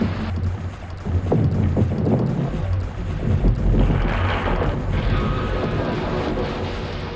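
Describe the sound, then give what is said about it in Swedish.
Loud lake ice cracking during a storm, the whole lake cracking beneath a small boat: sharp splitting snaps near the start over a deep, continuous rumble and rushing wind-and-water noise that swells and stays heavy throughout. “I nästa ögonblick knakade hela sjön till under dem.”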